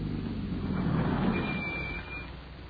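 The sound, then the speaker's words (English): A car's engine rumbles steadily, then the sound eases and drops off toward the end as the vehicle slows to a stop at a billboard sign. No one speaks. “Slow down, come to a stop at that billboard sign.”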